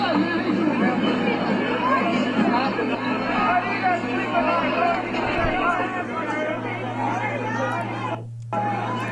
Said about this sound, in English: you're hearing people like, "How do you guys sleep at night?" And they're standing in the cops' faces